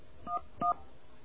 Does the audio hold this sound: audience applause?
no